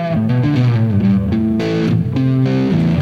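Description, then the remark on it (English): A woman plays a steady electric guitar groove through effects pedals, a ramble into a divided by 12, with a thick, sustained tone and a repeating pattern of notes, loud, with no talking. “Now she's setting up the groove, and that sounds nice. She's using the ramble into the divided by 12.”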